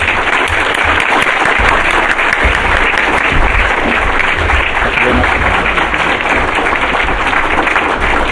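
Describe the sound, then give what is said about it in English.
Sustained audience applause, a dense wash of many hands clapping at a steady, loud level for the full stretch without any talking over it. “So let's have a round of applause for struggle.”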